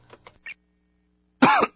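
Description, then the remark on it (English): A man, the Ricola Mystery Cougher of a Ricola cough drop promotion, gives one loud, rasping cough near the end, preceded by a few short, soft throat-clearing sounds and a quiet pause. “If you hear me coughing and offer me a soothing, natural Ricola cough drop, you could win $1 million”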